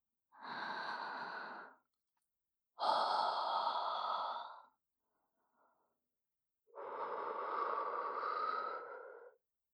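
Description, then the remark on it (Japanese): Three long, airy breaths blown right up against the microphone, each a soft rushing exhale lasting a second or two, separated by short pauses of silence. No one speaks. “吐息を吹きかけられただけで、祈祷を震わせて。”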